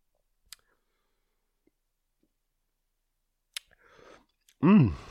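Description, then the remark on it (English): Two sharp little clicks, then a soft, brief slurping first sip of a German wheat beer from a bottle with a resealable cap, followed right away by a loud, short voiced sound from the drinker. “Let's take a first sip here.”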